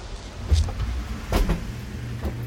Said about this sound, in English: This is the insectary. That humming is from an environmental growth chamber.